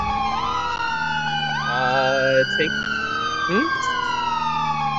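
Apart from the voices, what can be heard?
emergency vehicle sirens wailing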